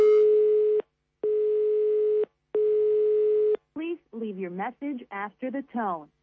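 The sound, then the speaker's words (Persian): A telephone ringback tone sounds three times down the line on a call to a home at New Year, long steady buzzing rings separated by short pauses, with no pickup. Then a person starts talking. “در این منزل کسی گوشی رو نمی بردارد، شاید کسی نیست، همه به تماشای شهر برآمدند، شاید در بیرون جشن میگیرند سال نو رو، شاید موسیقی بلند است و کسی نمیشنود صدای گوشی رو.”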